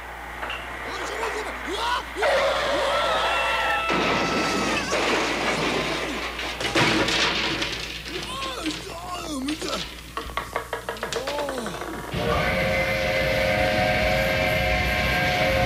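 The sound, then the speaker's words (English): A train rolls into the town of Carbondale with a loud, steady rumble and rattling metal, a quick burst of clickety-clack wheels, then a long, sustained horn blast closing out the approach. “the train is bringing the way past the last Carbondale Spring Talent Show to town”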